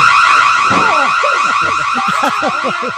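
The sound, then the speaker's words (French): A home security alarm blares after a wrong code is entered, a loud, steady, shrill electronic tone held throughout, with a series of quick lower swooping chirps repeating beneath it. No one speaks. “Mon père était un maniaque de la sécurité, des systèmes d'alarme, des barrures, des serrures.”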